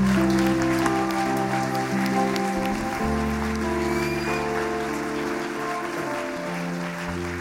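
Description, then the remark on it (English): Sustained, steady applause from a crowd for several seconds, with held keyboard or organ chords playing underneath the clapping. “On peut les applaudir bien fort, bien fort.”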